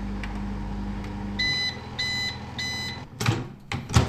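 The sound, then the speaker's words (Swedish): A low steady hum of a microwave oven reheating leftover school-kitchen food in a plastic container, then three evenly spaced electronic beeps, followed by a couple of clunks like the door opening. Clear, no one speaking. “Så där, efter en sväng via mikrovågsugnen så är det då dags att smaka på det här.”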